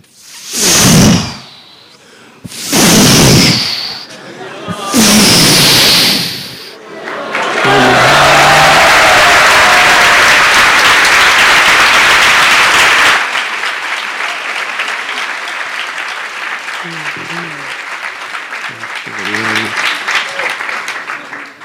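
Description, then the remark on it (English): Three loud breathy whooshes, a voice imitating surging waves, give way to a dense roar of audience clapping that also imitates crashing waves, swelling for several seconds, then fading under a man talking. “Your clapping sounds more like the waves than my imitation.”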